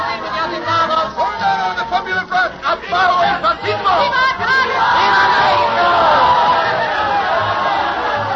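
A large crowd in Mexico in 1934 cheers and shouts for the newly elected president, Cárdenas, many voices overlapping in a loud, sustained roar that swells and becomes steadier and fuller toward the end.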